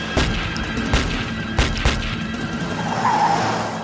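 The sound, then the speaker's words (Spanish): Several sharp gunshots crack out at irregular intervals, fired from a car at a man stepping off the curb. Loud bursts sound over a steady rumble like an idling car, with no one speaking. “Dijo que cuando bajó del bordillo para ayudarles, le dispararon.”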